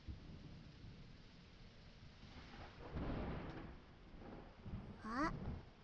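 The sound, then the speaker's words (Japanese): A dense, steady downpour hisses throughout, while low thunder rumbles swell up midway and again near the end, joined by a brief high squeak as the second roll peaks. “でもほら、すごい雨の音ですよ。”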